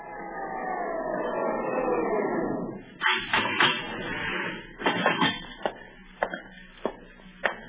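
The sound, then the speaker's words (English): An elevator door slides along its track: a motorized whir winds down, then clunks, rattles and sharp clicks follow in an uneven series, with no voices. “Wait until you hear the elevator, then use the stairs.”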